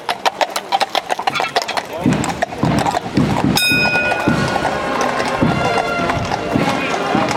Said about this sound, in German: Dem Aufmarsch voran gingen zwei Reiter, es folgten drei Pferdekutschen mit dem Kaiserpaar und dem Gefolge und danach die Kapelle und das Fußvolk.